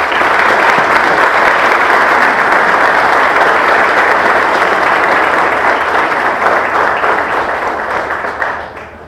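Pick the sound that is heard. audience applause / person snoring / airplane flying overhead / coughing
audience applause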